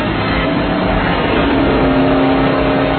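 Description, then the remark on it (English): A car engine roars loudly and steadily as it revs and accelerates, the pitch holding a strong, continuous growl with a rising tone near the end. No voices are heard. “Just punch it, man. Just punch it. Go! Wait, this car is faster.”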